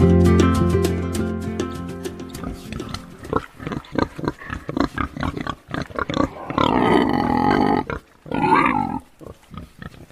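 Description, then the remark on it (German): Pigs grunting and squealing, a loud rapid series of snorts and grunts with a few longer, louder squeals, over a steady low background hum at the start. “Und das Schweinegrunzen habe ich nicht mal eben zufällig eingespielt, sondern es hat seinen Grund, weil es hat ganz viel mit meinem heutigen Gast zu tun.”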